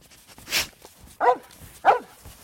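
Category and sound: animal, dog barking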